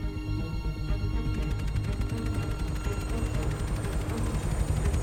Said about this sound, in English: Steering between Nelson's Column and nearby buildings, the helicopter comes in to land.